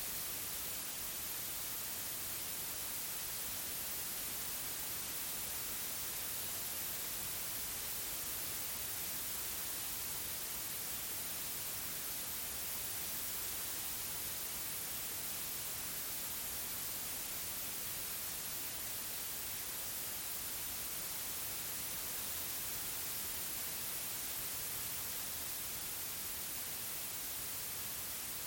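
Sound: white noise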